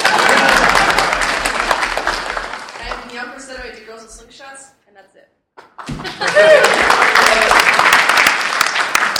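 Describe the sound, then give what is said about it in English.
An audience breaks into loud, dense clapping mixed with laughter, which fades briefly into murmuring and a short lull before a second burst of applause swells up just as strongly. “You can clap for me.”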